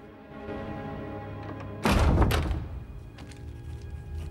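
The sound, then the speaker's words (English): Nemo closes a door, which swings shut with a single heavy, low thud that rings out briefly before fading, set against a steady low hum. “Nemo turns around and stares at Mina as he closes the door.”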